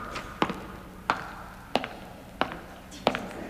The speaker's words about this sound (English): My footsteps echoed round the church.